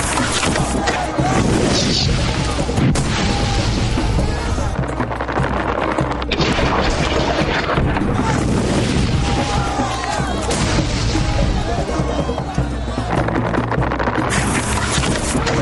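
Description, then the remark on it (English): Dense, continuous battle din as volleys of Greek fire strike a Crusader army and its siege towers: booming explosions and heavy crashes layered over roaring fire, with repeated sharp impacts throughout and muffled voices faintly buried in the chaos. “The blazing meteors of Greek fire hit their targets.”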